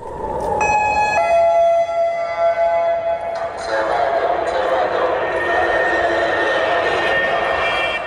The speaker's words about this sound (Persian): از سوی حملات راکتی حماس به شهرها و شرکای اسرائیلی ادامه دارد. صدای آژیری که هر از چندگاهی در برخی شهرهای اسرائیل شنیده می شود. هشدار حمله راکتی.